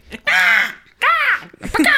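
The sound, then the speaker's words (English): A person imitates a crow eating, mimicking someone's noisy eating, with two loud, harsh, drawn-out caws in quick succession and a third caw just beginning at the end. “Like a crow eating.”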